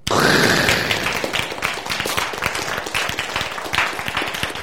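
An audience breaks into applause, a dense wash of many hands clapping that starts loud and holds steady for several seconds, with a few louder individual claps standing out near the end.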